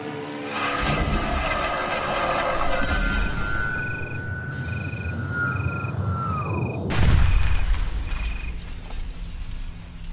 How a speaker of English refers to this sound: But he forgot to trim the tops of the trees above. A tragic mistake, it caused a plane crash, love.